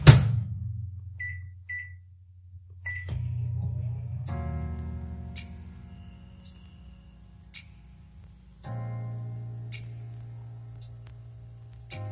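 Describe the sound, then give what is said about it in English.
A microwave oven hums steadily, starting with a few short keypad beeps and a click, with its low drone shifting in pitch a couple of times and occasional sharp ticks. “We'll nuke them in the microwave.”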